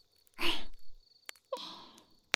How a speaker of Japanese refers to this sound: 虫のオーケストラ、素敵。コンサートの特等席だね。